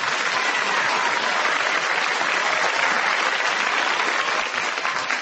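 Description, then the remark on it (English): Sustained studio audience applause for the four players of the panel game Just a Minute, a dense, even wash of many hands clapping at steady loudness for several seconds, with no voices over it. “Would you please welcome all four of them?”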